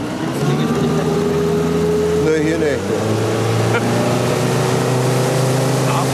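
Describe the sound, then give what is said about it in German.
A loud motorboat engine drones steadily, then revs up with a rising whine partway through before settling into a higher, sustained roar as the boat speeds off to go fishing, while people talk briefly over the noise. “Ja, gib Gas.”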